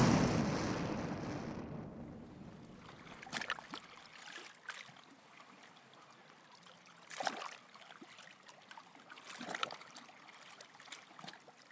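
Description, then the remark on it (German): A loud watery rush opens, then settles into steady gurgling and flowing water, with sharper sloshing surges every few seconds, as water floods into the cabin of an airplane that broke apart on hitting the water and is sinking. No voices. “Sie sahen, wie Wasser in die Kabine floss.”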